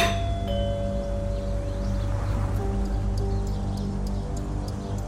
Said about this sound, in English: I'll ring the bell.